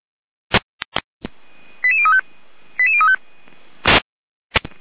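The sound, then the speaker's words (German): A radio alerting tone sequence for the deployment 'Florian Wurzbach', securing a rescue helicopter (RTH) landing: a quick run of stepped beeping tones plays twice, separated by a pause, framed by sharp static clicks and noise bursts over a faint steady hiss. “Leitstellgeräume, weiter von Alarmierung.”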